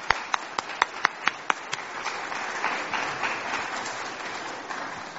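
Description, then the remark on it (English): An audience applauds its Rancho Santa Marta team, starting with several sharp, evenly spaced claps that quickly blend into a steady, sustained wash of clapping from many hands, with no one speaking. “Let's have a round of applause for our Rancho Santa Marta team.”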